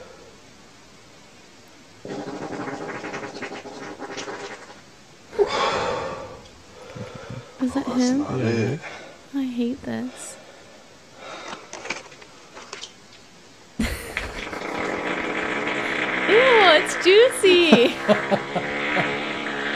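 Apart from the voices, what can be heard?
fart sounds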